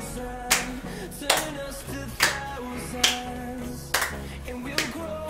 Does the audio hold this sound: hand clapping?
yes